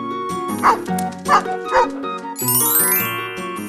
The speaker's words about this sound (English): At home, he's a good watchdog and barks whenever someone is at the door.